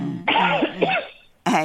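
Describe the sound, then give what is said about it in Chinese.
A loud bout of coughing and throat clearing from someone not yet fully recovered from a cold: a rough, voiced rasping stretch of about a second, a brief pause, then one more sharp cough. “哎，马上来个应景的咳嗽，还没有完全好”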